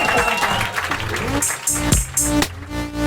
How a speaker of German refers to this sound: Ihr könnt jetzt in die Hände klatschen oder sowas. So lange.